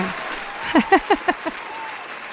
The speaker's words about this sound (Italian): Dai, diamoci un po' di carica con questo applauso.